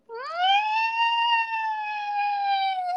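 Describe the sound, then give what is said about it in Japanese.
A voice imitates the morning howl-like cry of a pet from the dog family, one sustained tone that rises at the start, holds steady for about three seconds, then dips slightly at the end. “だから、コヨが犬科だからか分からんけど、映っちゃったのかもしれないんだけど、朝とか遠吠えみたいな鳴き声してる。”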